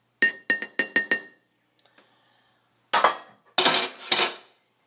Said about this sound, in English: I'm going to find a spoon, of which I have a clean one. Awesome. I always love the sound of people stirring their coffee. I don't know why. Just sounds cool.